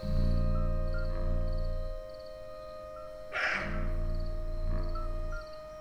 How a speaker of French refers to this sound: C'est quoi, c'est les grillons, ça ? Les grillons, c'est quand il fait chaud.